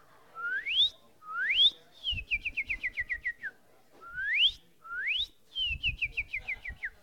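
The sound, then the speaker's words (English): A person whistles a northern cardinal's song: two rising slurred whistles, then a quick run of short falling chirps. The phrase plays twice, clear and fairly loud, with faint breathy thumps beneath. “Here's a cardinal for you.”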